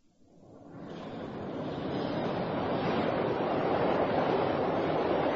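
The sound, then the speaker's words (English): A London Underground train pulls into the platform, its broad rushing roar swelling up over the first two seconds and then holding loud and steady, with no voices. “Here she comes, right on top.”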